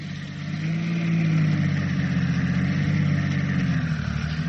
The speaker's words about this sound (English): At noon, the press cars turned off the shell-pocked main road and jolted towards the next little hamlet, Caude.